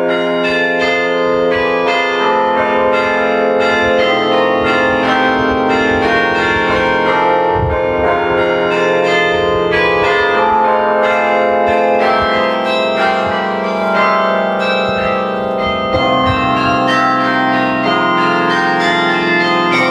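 The carillon of Maria-Hilf rings out a melody, many tuned bells overlapping in a rich, sustained wash of ringing tones, loud and continuous throughout with no voices.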